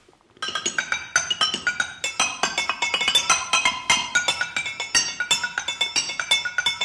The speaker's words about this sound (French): Il n'est pas en train de faire sa vaisselle, hein. Il fait un véritable concerto de pierre. C'est étonnant quand même.